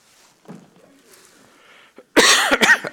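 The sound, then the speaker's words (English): After a couple of seconds of quiet murmur in a church, someone lets out a loud, harsh cough that breaks into two or three rough bursts, echoing through the space. “Couldn't help but think as I watched different ones, the praise team and around the church coughing, and it's going to be good in just a few days when we get our voices back and we're breathing normal.”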